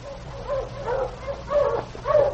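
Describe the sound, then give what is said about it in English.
A sled dog team barks and yips in a run of repeated mid-pitched calls, some whining, rising and falling over a steady low background hum, heard from inside an igloo. No one speaks. “For two more days, we stayed in the igloo, and then we heard the welcome sound of my dog team.”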